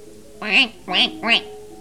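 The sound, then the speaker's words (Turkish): Three nasal, honking duck quacks in quick succession, fairly loud, with short pauses between them and nothing else around them. “Ben etmem der ördek.”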